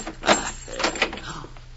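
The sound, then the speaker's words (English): A door is unlocked and opened: a few quick metallic clicks and rattles, then the soft scrape of the door swinging, all fairly quiet with no one speaking. “This door lock.”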